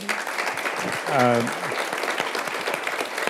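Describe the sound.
Steady, dense audience applause fills the whole clip, with a single voice briefly whooping over the clapping partway through.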